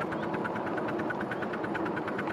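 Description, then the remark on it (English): A steam locomotive works hard uphill on a gradient with its reverser in full gear, chuffing hard and fast in a steady, rapid rhythm, its exhaust beats loud over a continuous mechanical rumble, with no voices. “You hear the engine working now.”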